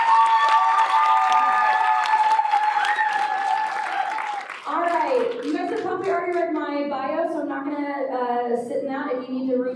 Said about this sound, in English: So a round of applause to everybody here, because this is what makes it great.